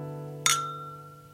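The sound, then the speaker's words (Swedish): A single bright clink of glasses touching in a toast, sharp at first and then ringing out with a clear lingering tone that fades slowly, alone over a faint steady hum. “Okej, skål.”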